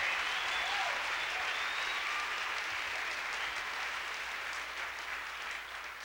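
Sustained audience applause for a musician on organ, a dense wash of many hands clapping at steady volume throughout, tapering slightly near the end, with no voices standing out.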